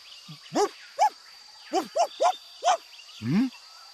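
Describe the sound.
A person imitates a dog barking, giving about six short, sharp yaps in an irregular rhythm, moderately loud, ending with a longer, lower growly bark.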